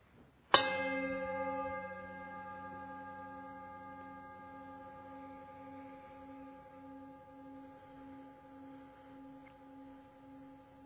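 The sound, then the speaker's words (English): A single meditation bell is struck once during a Unitarian Universalist service, then rings on alone with a rich, shimmering tone that pulses gently and fades slowly over about ten seconds into silence, nothing else heard. “Continue to breathe as you follow the sound of the bell into shared silence.”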